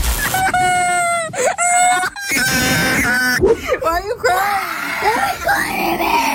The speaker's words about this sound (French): On voit fleurir sur les réseaux sociaux des vidéos de très jeunes joueurs en larmes ou qui hurlent, qui pètent un câble parce qu'ils se sont fait dépouiller leur Brain Rot, leur petit personnage, écoutez.